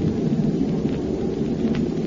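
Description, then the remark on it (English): A deep, rolling rumble from a bomb released from a plane exploding holds steady and loud for about two seconds, a thick low roar with no sharp break and no voices. “There goes one of them. Now for number two.”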